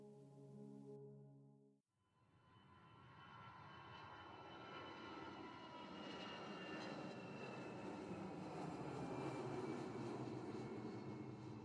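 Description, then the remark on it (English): A short tonal sound gives way to the steady drone of an airliner's giant Rolls-Royce engines humming in flight on a United flight to Oslo, a broad rushing roar that swells slightly and then holds constant. “Instead, I played a game of closing my eyes and letting the hum of the plane's engines knock me out.”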